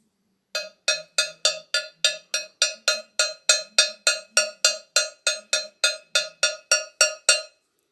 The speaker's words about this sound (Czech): Zvuk jasně připomíná kravský zvonec.